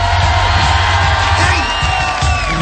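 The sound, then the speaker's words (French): A large audience applauds and cheers loudly and continuously for a young performer after his comedy sketch, with shrill whoops and whistles rising above the steady roar of the crowd. “Allez, on applaudit encore un petit coup.”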